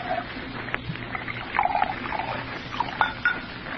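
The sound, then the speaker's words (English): Bourbon poured into a glass, a steady liquid trickle with a couple of light glassy clinks, fairly quiet, with no talking over it. “What'll it be? Yours. Bourbon. You pour. I don't know when to stop.”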